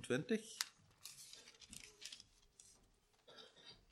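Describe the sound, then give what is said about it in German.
Thin Bible pages rustle and flip in a few quick, crinkly bursts as someone turns to John chapter 19, with a brief voice sound at the very start. “Wir haben mal in Johannes Kapitel 19 drin. Er blättern.”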